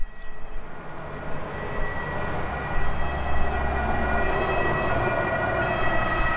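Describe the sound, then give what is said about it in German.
The siren of an arriving police car sounds continuously over a steady rumble of traffic or engine noise, fairly loud, holding on sustained tones with no one speaking. “Fünf Minuten später ist die Polizei schon da.”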